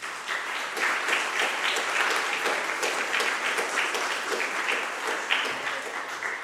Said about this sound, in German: Ich denke, das ist auch mal einen Applaus wert.